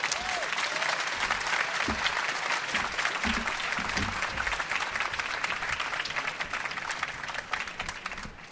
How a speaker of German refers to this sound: Vielen Dank fürs Zuhören und meine Damen und Herren, einen großen Applaus